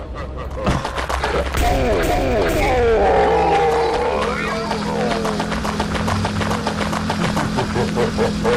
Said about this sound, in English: I don't think that's human. It sounds like a lion.